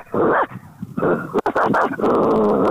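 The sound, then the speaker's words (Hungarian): A small dog barks while sitting on command, in a handful of drawn-out, growly bursts, with short pauses between them and the last one running longest. “Jó, ültesd le, hogy ülve ugasson, szólj neki, hogy üljön le, és akkor utána figyelünk.”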